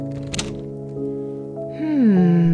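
The door to a living room is opened quietly: a soft click of the latch, then a drawn-out, tonal hinge creak that slides downward in pitch and swells slightly toward the end.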